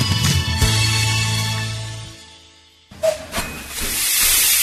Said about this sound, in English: The Hampton and Kempton Waterworks Railway runs every Sunday from 10:30 until 4. Enjoy a ride behind Darrant, a 1903 steam engine.